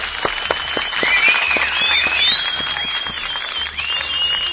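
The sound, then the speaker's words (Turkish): An audience applauds, with dense, overlapping clapping held at a steady, fairly loud level for several seconds. Thin, high whistle-like tones waver above the clapping, and no one speaks. “Bence bir alkış yetmez, bir alkış daha gönderelim.”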